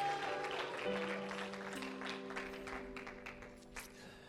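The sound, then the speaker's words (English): A church audience claps steadily in a dense, continuous wash of applause, a hand clap of praise to God with a shout as people are being seated, with scattered voices mixed in and sustained keyboard-like tones holding underneath throughout. “Give God a hand clap of praise and a shout as you're being seated.”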